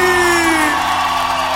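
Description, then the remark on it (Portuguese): A crowd answers a singer's call for a loud shout: a dense, loud roar of shouting and whooping fills the whole stretch, steady, with a few sustained voices sliding downward in pitch. “Quero ouvir um grito bem forte.”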